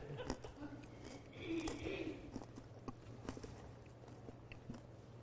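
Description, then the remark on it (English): A speaker chews something with irregular wet, crunchy clicks and smacks over a steady low hum, continuing for several seconds without any clear words. “I gotta chew this up, making me spit all over the place.”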